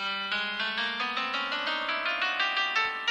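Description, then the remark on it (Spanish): An ascending chromatic scale played on a phone: a quick run of a dozen or more bright, buzzy electronic notes climbing in small steps, steady and evenly paced, with no talking. “Las escalas cromáticas en un ascendente sería cuando hacen esto.”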